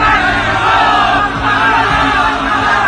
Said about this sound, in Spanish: Pero ellos insistían, pidiendo a grandes voces que fuera crucificado, y sus gritos eran cada vez más fuertes. Entonces, volvieron a gritar.